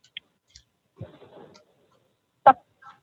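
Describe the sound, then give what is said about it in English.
Tarot cards being shuffled for a tarot reading: a few light clicks, a short papery rustling flurry, then one sharp, louder snap of cards, with no one talking. “Now I'm going to shuffle the cards.”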